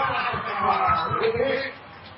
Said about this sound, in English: Receivers are back for Shasta. Let's see. Here we go. You can hear the crowd getting excited here. Boy, they are excited. There's the kick.